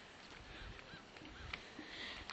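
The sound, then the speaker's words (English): Faint duck calls from ducks on the water, a few short quacks and honking notes scattered over a steady wash of outdoor background noise, with no one speaking. “Oh, yeah, ducks.”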